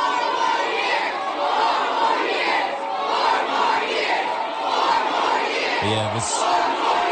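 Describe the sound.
Competing protest groups at President Biden's abortion rights campaign event in Virginia roar and shout continuously, many voices overlapping in a chaotic wall of screaming and chanting, some drowning out pro-Palestinian protesters screaming 'genocide', with a brief sharper burst of noise near the end.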